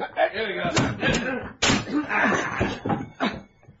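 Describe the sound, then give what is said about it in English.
Several heavy, loud blows slam against a door in quick succession, crashing and splintering as it is broken down, with muffled voices mixed among the impacts. “In another city, 20 miles away, another sort of hammering on a different door. All right, break it down.”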